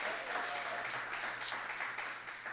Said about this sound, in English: So before we start, if anyone, give them applause for all making it here tonight.